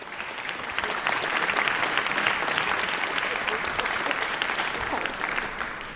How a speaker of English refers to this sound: So please welcome Roya with a huge warm round of applause.